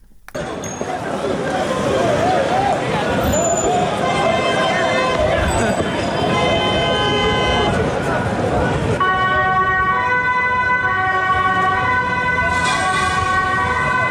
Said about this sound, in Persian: صدای آژیر اورژانس و پلیس و بازداشت‌های گسترده. اینها محتوای مشترک ویدیوهایی است که از بعد از ظهر روز پنجشنبه از شهر آمستردام، پایتخت هلند، در شبکه‌های اجتماعی